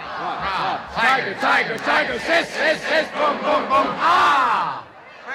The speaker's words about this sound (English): The cheer is called the Princeton Locomotive, and they're still doing it to this day.